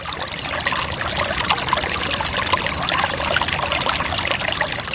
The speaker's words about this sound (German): Dann war es ja wochenlang schaurig heiss gewesen, die Leute haben gestöhnt wegen der Hitze und es hat ganz lang kein Tropfen Wasser geregnet. Aber eben, die Bäche, die haben fröhlich plätschert.